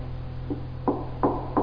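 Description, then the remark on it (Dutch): Three firm knocks on a wooden surface, as at a closed door, evenly spaced, preceded by a fainter tap, over a steady low background hum. “En dan kloppen.”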